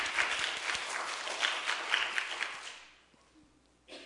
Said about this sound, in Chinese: 拍手将荣耀归给我们的主，哈利路亚。给神的要再大声一点。